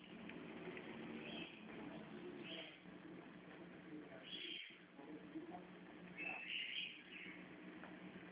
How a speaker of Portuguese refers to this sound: Barulho gostoso de passarinho cantando, hein? Ah, aqui é calopsita.